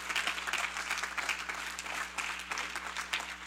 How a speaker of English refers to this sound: You ought to clap the hand today and say, thank you, Jesus. Woo!